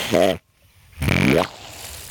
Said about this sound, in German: Und das war das Standrohr, wenn ich das Wasser anschließe, den Wasserschlauch. Das erste Mal morgens, wenn ich das aufdrehe, ist das immer das Geräusch, das dieses Rohr macht, wenn das Wasser also neu die Leitung hochschießt und dann zum ersten Mal